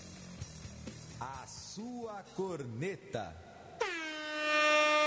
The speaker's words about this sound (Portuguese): A corneta da Rádio América.